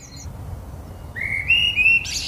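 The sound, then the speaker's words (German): Birds chirp and whistle in clear rising and sustained notes over a steady, low rumble of city noise in Rotterdam, the Netherlands, in the morning, the calls growing louder toward the end. “Nebst dem dumpfen Geräusch der Großstadt Rotterdam hört man Vogelstimmen.”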